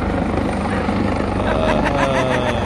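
helicopter flying overhead

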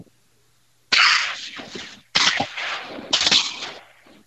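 shotgun blasts

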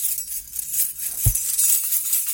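keys jingling

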